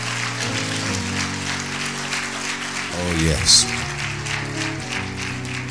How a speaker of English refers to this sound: Come on, let's clap our hands again for the Spirit of God and the Word of God.